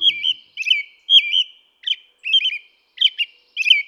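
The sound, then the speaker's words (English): An American robin sings its daytime song, a steady series of short, rich whistled phrases, each slightly different, separated by brief pauses. The song is clear, with no voices or other sounds. “During the day, an American robin sings a lovely, familiar song of rich phrases.”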